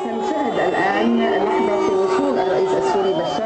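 A large crowd of Lebanese demonstrators lets out loud, sustained booing as Syrian President Bashar al-Assad's speech is broadcast live on giant outdoor screens, with long drawn-out low vocal tones rising over a dense wash of shouting and chatter throughout.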